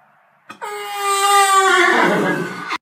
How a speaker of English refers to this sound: We have to do the warning that if you're in the barn right now and have the radio cranking, there is a whinny coming, and it will make your horses tense.